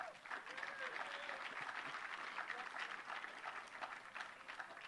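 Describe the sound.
A crowd claps steadily and warmly for about five seconds to welcome a 90-year-old storyteller, a dense, even wash of applause that holds its loudness throughout, with faint voices mixed in near the start.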